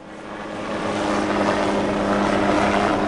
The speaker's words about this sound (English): Jessica Lynch's helicopter landed on a softball field in the town of Elizabeth